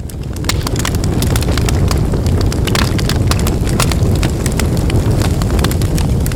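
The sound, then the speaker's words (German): A loud roaring fire with a deep rumbling low end and sharp crackles and pops scattered throughout, continuous for several seconds with no voices. “Ein riesiges Feuer vom Himmel.”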